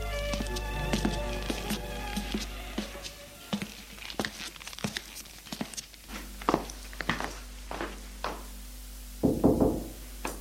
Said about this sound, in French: L'après-midi, au retour de ses cours, il va frapper à la porte de la chambre de sa sœur.